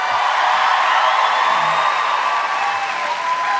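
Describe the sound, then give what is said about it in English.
Steady, loud audience applause welcoming two guests, one of them Bradley Whitford, a dense wash of many hands clapping that holds evenly for a few seconds with no voices standing out. “That was all plain applause.”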